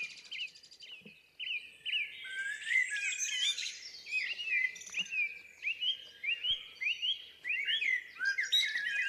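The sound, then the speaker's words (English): A blackbird and a song thrush sing together in Scotland, the blackbird in full song right on top of one microphone and the thrush at another, rich warbling phrases overlapping continuously, with a faint insect-like hum low in the background and no voices. “I've got a blackbird in full song right on top of one of Ken's mics, and I've got a song thrush on the other mic, courtesy of Arthur.”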